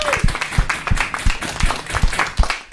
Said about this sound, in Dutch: Dus ik ben echt mega trots. Applaus voor jezelf. Applaus voor jezelf.